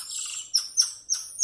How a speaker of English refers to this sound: Golden Lion Tamarins.